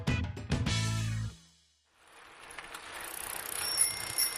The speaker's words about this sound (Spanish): Indy y yo estamos en dos bicicletas de dos puestos. Anímense a compartir unos pedaleos.